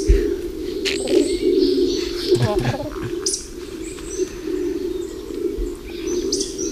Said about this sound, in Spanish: Ahí oímos ese ronroneo, es una becada. ¿Habla de la becada? Se lo oye a veces.